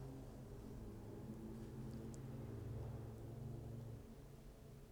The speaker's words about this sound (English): With the touch of my hand, like a miracle, the four-wheel drive of this high-clearance truck engages. Off we go.